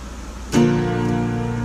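An air conditioning unit kicks on with a brief clunk, then settles into a steady, fairly loud mechanical hum with a droning tonal whine that holds constant. No voices are present.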